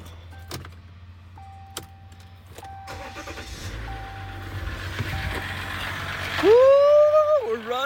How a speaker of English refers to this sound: Just like that, my truck has started.